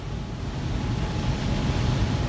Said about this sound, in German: Die gewaltigen Turbinen, die man hier rauschen hört, gehören zu einem Staudamm, der als Wasserkraftwerk dient. Der entsprechende Stausee misst viele Quadratkilometer.